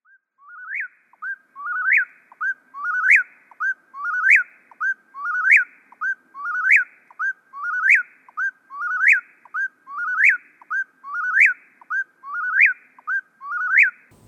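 A whippoorwill calls over and over, its loud, clear three-note whistled phrase repeating steadily about every second, alone against a quiet background with no voices.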